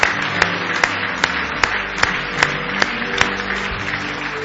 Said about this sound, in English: Say praise the Lord. Now give him a big hand clap of praise if you love him.